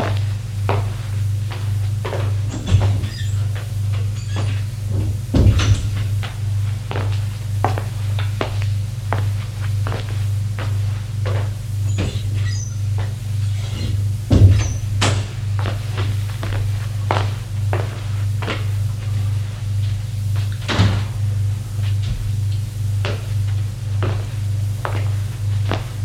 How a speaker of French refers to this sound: Et comme j'avais trop chaud, je devais avoir de la fièvre, je suis allé ouvrir la fenêtre de la cuisine.